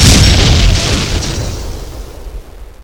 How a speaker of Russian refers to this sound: Можно и не париться, проезжаю мост, и машина взрывается.